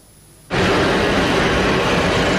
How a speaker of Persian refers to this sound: چرخ هواپیما از زمین کنده می شود، دل آنها از وطن.